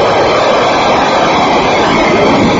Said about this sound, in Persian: در جهان هیچ جنگنده‌ای قادر نیست به سرعت این جنگنده در آسمان چرخ بزند.